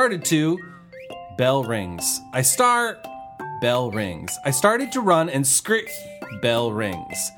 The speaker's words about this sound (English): Finally, bell rings. Oh yeah, I'm in school.